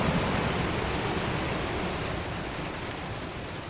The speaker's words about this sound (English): We're standing on a tributary of the White River, surging with caramel-colored water and debris. The day after a catastrophic rainfall inundated parts of Washington County, Benton County, and Carroll County.